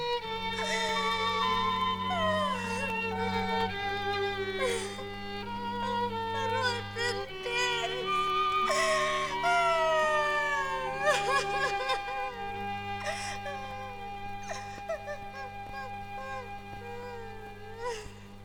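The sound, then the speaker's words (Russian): Bitter, wavering sobs and drawn-out wails from a single voice, rising and falling for several seconds over a steady, sustained musical backdrop, fairly loud. “Горько-горько заплакала муравьишка.”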